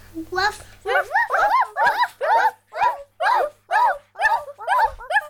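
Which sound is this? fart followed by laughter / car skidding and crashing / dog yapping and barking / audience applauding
dog yapping and barking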